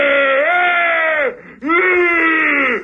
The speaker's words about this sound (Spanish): Y ahí fue que recibió el abucheo de su propia bancada.